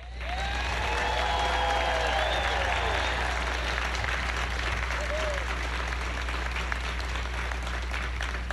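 A large audience applauds steadily for several seconds, a dense wash of clapping with scattered cheers and whoops rising above it, sustained and fairly loud throughout. The applause honors the family members of Katherine Johnson at an event.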